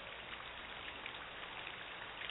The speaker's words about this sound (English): And boys and girls, take an imagination trip as you listen to the rain.